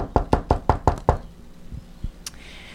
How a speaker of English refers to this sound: there came a thumping and a knocking on the cottage door.